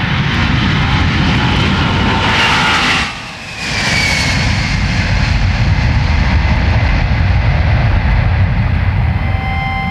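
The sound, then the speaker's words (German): Engines of a Boeing 747 jumbo jet, 70 meters long with a 60-meter wingspan and 19 meters high, roar loudly and steadily, with a rising whine drifting over the broad rumble and a brief dip in the noise early on. No voices. “70 Meter Länge, 60 Meter Spannweite, fast 20 Meter hoch, 19 Meter, die Boeing 747, aber der Jumbo-Jet.”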